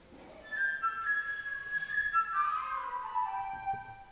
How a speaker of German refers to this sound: Peter und der Wolf. Ein musikalisches Märchen. Alle Menschen und Tiere werden durch Instrumente des Orchesters dargestellt. Der Vogel durch die Flöte.